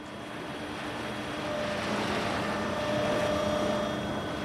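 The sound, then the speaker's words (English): A steady boat engine drones as the boat pulls up to a pier in Honolulu Harbor, Hawaii, its low rumble and faint tonal hum swelling slightly louder midway through, with no voices present. “We pulled up to the pier, and you get through a little gate.”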